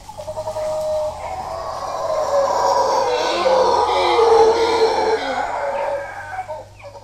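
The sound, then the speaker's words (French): Howler monkeys hidden in the forest canopy, over 2 km away, howl in a loud, sustained roaring chorus that swells and surges for several seconds, deep, rough and continuous, with no one speaking over it. “C'est des singes hurleurs. Ils sont cachés dans la canopée et là, en fait, ils sont à plus de 2 km du point où vous les entendez, tellement la voix est rauque et c'est terrifiant.”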